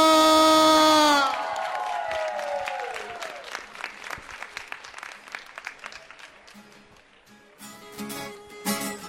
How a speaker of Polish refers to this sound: Dla wszystkich księży, którzy nas prowadzą, dla siostry zakonnych, wielkie brawa!